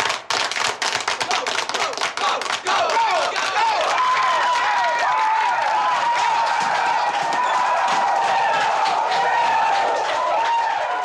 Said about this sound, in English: What has he done to deserve that slow clap?